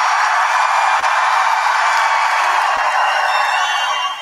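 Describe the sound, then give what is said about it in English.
A large audience applauds during Trump's speech in Miami in a dense, steady roar of clapping and cheering that holds at full strength for several seconds, with no speech over it, then eases slightly at the end. “As you can hear, that was a big applause line in Trump's speech in Miami.”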